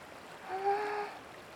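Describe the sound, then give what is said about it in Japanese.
A steady, soft rush of river water flowing close by an open-air hot spring bath, with a brief tonal whistle rising briefly over it in the middle. “川がすぐそば流れてて、目隠しの木々の緑も鮮やかで、あったまるだけじゃなく、くつろぐわ。”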